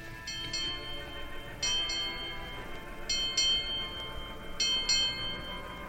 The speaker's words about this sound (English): Eight bells. That was the end of the long night watch, and soon it would be morning.